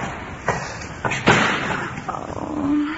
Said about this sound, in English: Take five, will you please? And don't slam the door!